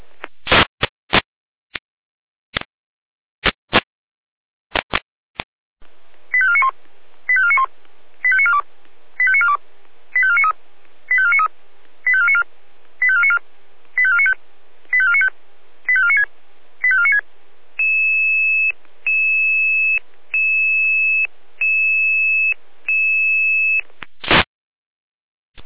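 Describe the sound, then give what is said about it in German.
Radio pager test alert from Leitstelle Jena for the volunteer fire brigades of Saale-Holzland-Kreis at 11 o'clock: sharp clicks and bursts, then a rapid run of about a dozen short, high beeping tone groups, followed by one long steady tone and more clicks. “Proberuf, Funkmeldeempfänger. Für die Freiwilligen Feuerwehren Saale-Holzland-Kreis.”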